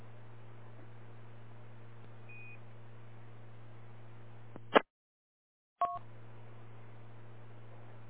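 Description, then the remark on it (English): A steady hiss of radio channel noise breaks off with a short electronic beep, falls silent for about a second, then another beep sounds as the noise returns. A station is keying in. “We have another station there keying in.”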